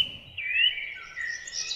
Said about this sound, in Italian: E anche qua, ne riconoscete uno? Tra l'altro quanto è rilassante ascoltare il verso degli uccellini, è rilassantissimo, io lo trovo veramente magico, soprattutto appunto se sei proprio nel bosco, oppure se vi capita di passeggiare anche in città,